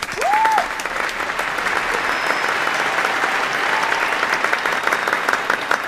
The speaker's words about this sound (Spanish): Vamos a dar un aplauso aquí, inmenso, ¿vale? De todo el público, 1.200 personas. Con todo el cariño. Un aplauso a ….